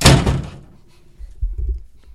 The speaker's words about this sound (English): He's going to break that door.